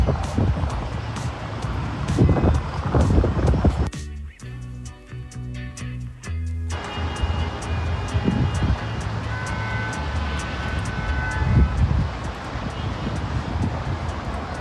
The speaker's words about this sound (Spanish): Ahí sí, los vehículos de fondo, bocinas, ¿cierto? Y bueno, esto estuvo tipo 7:30 hasta 9 de la noche.